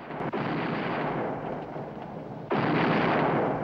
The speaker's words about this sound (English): Rot my guts, the cannons are blowing up.